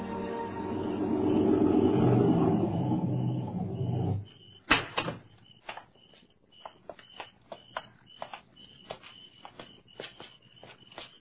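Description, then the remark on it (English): A car engine rumbles steadily as it draws up at dawn to Noll Turner's home in the country, then cuts off, followed by a sharp door slam and a scatter of lighter clicks and knocks, like footsteps and further handling, with faint high chirping. “Now in the half light of dawn, they draw up to Noll Turner's home in the country.”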